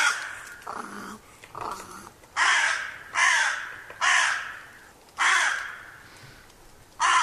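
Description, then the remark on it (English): Crows caw loudly, a series of harsh, rasping calls, about six of them at roughly one-second intervals, with a couple of softer, lower croaks near the start. “Crows, it seems, stay with their partners for life and have a very good memory”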